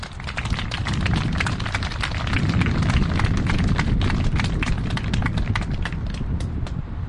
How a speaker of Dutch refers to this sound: Eerst wil ik graag uitnodigen de tweede vrouw van de Partij van de Dieren. Die is speciaal hier gekomen om deze opening te verrichten. Mag ik een hartelijk applaus voor Esther Ouwehand.